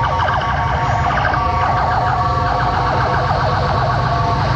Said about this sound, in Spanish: Todos los vehículos de emergencia de carabineros, bomberos, ambulancias están pasando por la carretera y hay un atochamiento gigantesco producto de esta emergencia